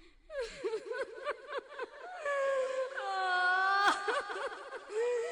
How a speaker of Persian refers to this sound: چند نفر توی غسالخونه ایستاده بودن و زنی که بین بچه ها شیون میکرد و خاک به سرش میپاشید. … بود.